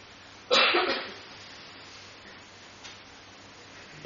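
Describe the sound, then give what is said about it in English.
At a public question session, a sharp, loud cough bursts out near the start, followed later by a fainter second cough and a hint of another at the end, over a steady background hiss. “There's a few coughs.”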